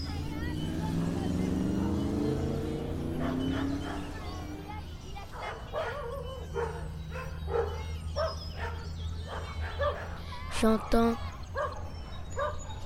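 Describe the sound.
Dogs bark repeatedly in short, uneven bursts, some sharp yips among them, over a steady low rumble of traffic. A person speaks briefly near the start.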